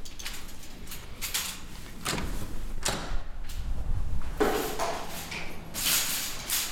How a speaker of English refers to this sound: And one more door. And that's it.